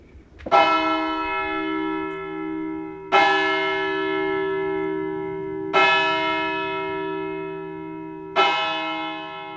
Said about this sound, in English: there's the bell tower in the church that Frank wanted us to see